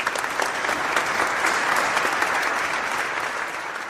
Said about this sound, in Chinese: 再睇下樽里边嗰啲钱，啊变到好似粟米咁细粒喎。见到咁嘅情形，哇！嗰班观众都哗哗声 拍烂手掌啊！